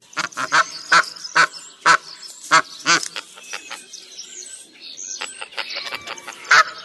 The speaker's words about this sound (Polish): To już gęś bernikla, drodzy państwo.